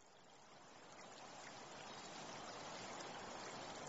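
A steady rush of running water from a small waterfall in a former mining village feeding a trickling stream, a continuous, moderately loud outdoor wash with no voices, swelling slightly as it goes on.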